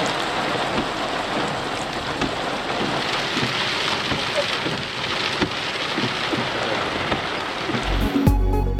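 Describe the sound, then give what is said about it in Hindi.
Steady rain pours down in a dense, hissing wash with scattered drops pattering on surfaces, continuous and fairly loud throughout, with a brief clatter near the end. Rain falling in the outskirts of Karachi, Pakistan. “कराची के मुजफाती इलाकों में कहीं हल्की कहीं तेज बारिश।”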